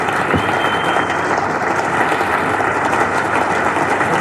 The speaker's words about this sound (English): And Trevor, the entire Australian fielders clapping, Jeff Boycott having a clap there, and I'm sure the entire ground clapping at that announcement by Alan Curtis that John has just done his final test match session.